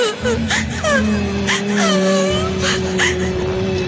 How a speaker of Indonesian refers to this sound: Matanya menatap kosong padaku sambil terus terdengar suara tangisan.